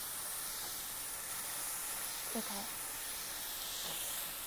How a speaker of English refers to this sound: Ooh, it's sizzling. I move it, right?